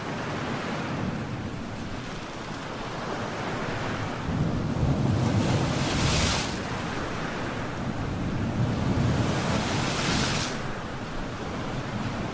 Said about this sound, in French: Alors nous sommes en pleine tempête, et oui